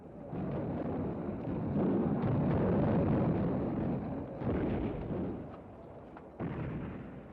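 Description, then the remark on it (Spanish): Artillery fire from an attack on the Fuerte del Sombrero fort in Zacatecas rumbles in a heavy, continuous low roar, punctuated by sharper booming blasts that swell the sound again near the end; no voices are heard. “Van a empezar el ataque con la artillería.”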